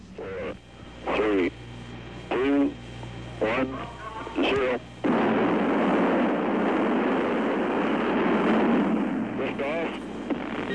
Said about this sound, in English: Lift off and the clock has started.